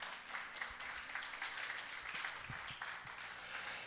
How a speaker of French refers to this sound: Vous pouvez applaudir.